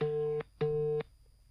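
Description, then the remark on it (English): A phone's outgoing ringing tone as a host calls a rapper to talk about his project: two steady, buzzy mid-pitched bursts in quick succession with a short pause between, loud and clear with no one talking. “I'm gonna call my man”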